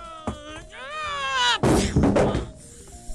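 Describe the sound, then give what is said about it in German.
A rising, whining revving tone gives way to a loud crash as a vehicle takes a curve too fast, its front wheel skids and it hits a wall with a heavy thud, a brief noisy clatter trailing off, then quieter tonal sounds. “Dabei ist mein Vorderrad ins Schleudern geraten und ich bin gegen die Wand geknallt.”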